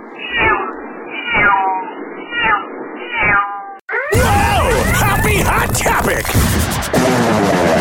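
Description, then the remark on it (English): A cat named Luna meows four times in a row while the Hoppy Hour show host gives out the phone number, each meow drawn out and slightly muffled, before a loud, dense wash of other sound abruptly takes over. “Only on Hoppy Hour do you get meowing while the host gives out the phone number.”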